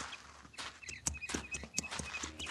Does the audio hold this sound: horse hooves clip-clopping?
yes